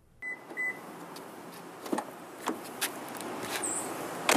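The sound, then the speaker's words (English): Two quick electronic beeps, like a car being locked, followed by several car doors thudding shut at uneven intervals over a steady low hum of outdoor background noise, as 11 cars of rowing team members pull up to the undergraduate library on the University of Illinois campus in pitch black at 4:50 in the morning. “On a Wednesday in early May, 11 cars pull up to the undergraduate library on the University of Illinois campus in the pitch black at 4:50 in the morning.”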